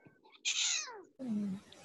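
A cat gives two clear meows in quick succession, the first bright and falling in pitch, the second lower and drawn out, with no talking.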